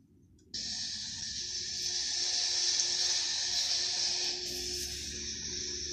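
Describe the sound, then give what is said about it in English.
In a horror short film, a shower that a wife is taking switches on abruptly and runs steadily, a bright, constant hiss of spraying water with a low rumble beneath it, continuing without pause. No one speaks. “The wife is taking the classic shower.”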